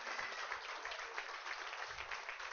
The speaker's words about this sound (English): You got to give Jesus a big clap for these precious people.